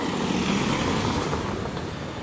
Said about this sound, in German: Auto.